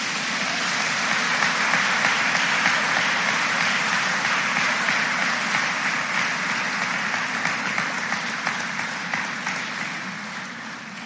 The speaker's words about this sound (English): Let's give another big round of applause.